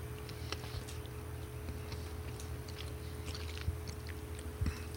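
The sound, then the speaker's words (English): Quiet chewing of crunchy Dubai milk chocolate with pistachio, sold as individual pieces, with soft irregular crunches and small clicks over a low steady hum; no one speaks. “Oh, this has a little crunchy.”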